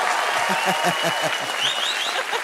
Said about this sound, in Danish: Ej, publikum, klap, please, så … kan høre, han skal lave den.